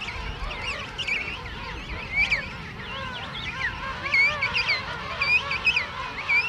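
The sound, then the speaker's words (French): A dense chorus of harsh, overlapping bird calls from a noisy penguin colony, braying and honking continuously with no pause, loud squawks rising above the constant din. “De 7h du matin jusqu'à 8h du soir, 9h du soir, c'est un perpétuel brouhaha, une grande foire dans laquelle les partenaires doivent se retrouver, les poussins doivent retrouver leurs parents.”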